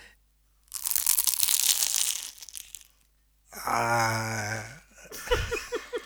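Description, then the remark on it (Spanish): A loud, crackly crunch of teeth biting through flaky puff pastry lasts nearly two seconds, followed by a drawn-out voiced murmur and a few short vocal sounds. “Yo cerré los ojos, mordí. No puedo creer el sonido que salió. Esto es como un mil hojas de hojaldre con una pastelera adentro.”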